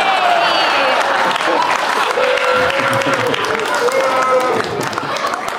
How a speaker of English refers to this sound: Wait, are you booing Bill Cosby or me mentioning Bill Cosby? Who are you mad at?